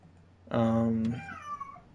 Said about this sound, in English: Shut up, cat.